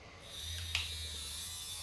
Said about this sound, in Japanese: バイクもすごい音しますね。